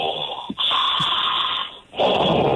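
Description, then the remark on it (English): A voice imitates the heavy, menacing breathing of horror villain Jason Voorhees: two long, loud, hissy breaths with a brief gap between them, raspy and sustained, with no speech. “No, dude, Jason Voorhees was always breathing like.”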